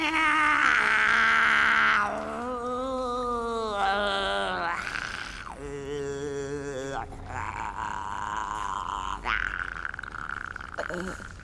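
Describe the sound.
An old woman sings badly: a wavering, off-key voice wails in long sustained tones, sliding up and down in pitch with a strained, warbling quality, loud and continuous for about eleven seconds with brief breaks between phrases.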